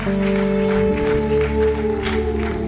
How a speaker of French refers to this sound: Oui, on peut applaudir Dieu, on peut applaudir, on peut remercier.